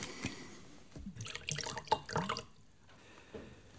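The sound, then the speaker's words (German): Office whisky splashes and gurgles as it is poured into glasses, a short burst of glugging with a couple of faint clinks, then it trails off into quiet. “Büro-Whisky, falls Sie die Flasche nicht ausgekippt haben.”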